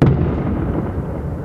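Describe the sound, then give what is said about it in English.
A missile strike explosion in Odessa, a strategic port with a naval base, shaking a hotel: a sudden, sharp boom, then a heavy, sustained low rumble that stays loud and thunderous throughout. No one speaks. “and 10 minutes later, we started explosions, which shook the hotel. These are clearly missile strikes.”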